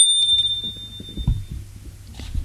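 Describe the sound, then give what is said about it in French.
A doorbell, rung by a woman, rings once at the start, a bright, high-pitched electronic tone that fades out over about a second and a half, while soft, muffled low thumps continue underneath. “Elle sonne,”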